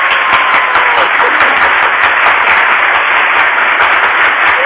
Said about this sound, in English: I should hit my applause button. Yeah, in fact, I'm going to.